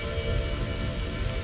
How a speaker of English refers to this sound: Imagine now how every raindrop is relaxing you. Every drop feels so relaxing. Hear with your ears. Smell how fresh rain is.